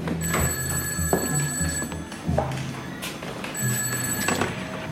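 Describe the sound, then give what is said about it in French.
A telephone rings in two long electronic bursts, bright, insistent tones repeating with a short gap between them, loud over a low background hum. “Il me semble que c'est d'ailleurs quand elle est chez son oncle, Willy, elle reçoit un coup de téléphone.”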